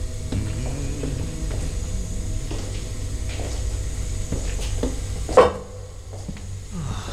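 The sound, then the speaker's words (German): Clattering and rattling of someone taking meat out of a cold room, with scattered mechanical clicks and scrapes, then a single sharp clunk of a heavy door near the end. No voices. “Er nimmt das Fleisch aus dem Kühlschrank.”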